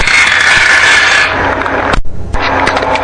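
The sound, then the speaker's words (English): Marbles rolling across a hardwood floor on the floor above, heard at night, make a loud, continuous rumbling rattle that briefly cuts out and then resumes, with a few sharp clicks of impact. “As I was sleeping the first night, I heard what sounded like marbles on the hardwood floor above me.”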